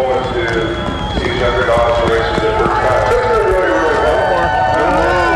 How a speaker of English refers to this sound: And now Hans Gott. He is a few feet from the chute, and now his front dogs have entered the chute. You hear the crowd.